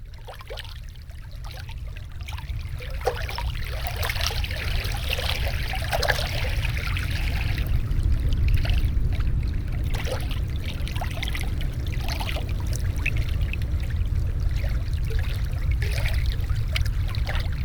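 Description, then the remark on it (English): Gentle water laps and trickles near the surface with small splashy bursts, layered over a steady, deep low rumble evoking the ocean, a layered mix of ocean and lake sounds, continuous and moderately loud throughout. “This kind of soft movement of water that would kind of be a surface sense, and then rumble that would really evoke the ocean.”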